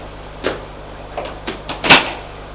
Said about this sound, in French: Une fois en bas, au lieu de sortir par la porte, l'homme qui a le coffre va ouvrir la porte qui est sous les escaliers qui donne à la cave.